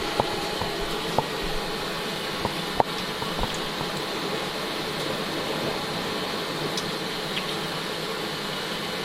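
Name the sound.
running tap water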